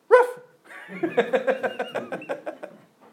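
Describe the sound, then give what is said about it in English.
A dog, answering a quiz question put to it, gives one sharp bark, pauses briefly, then lets out a quick rhythmic run of about ten short yipping woofs that trail off, with no one talking. “You know, you can say to your dog, come on, tell me a little quiz. What is there on top of the house? And it'll give you the answer.”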